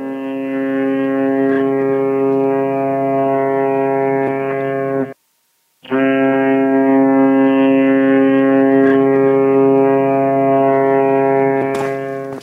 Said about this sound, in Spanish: El barco surcaba plácidamente las aguas cristalinas de la bahía. La sirena de embarcación anunciaba su llegada al puerto.